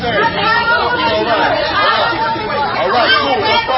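Dense crowd chatter fills a busy Trader Joe's grocery store on the Upper West Side of Manhattan, packed with shoppers, many overlapping voices blending into a steady, loud murmur with no single speaker standing out.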